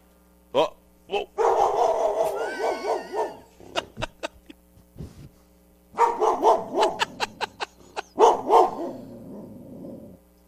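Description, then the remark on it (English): A dog named Ruby barks repeatedly at dogs outside, loud sharp barks coming in uneven clusters with brief pauses between them, mixed with some longer, drawn-out vocal sounds. “By the way, you want to hear Ruby bark?”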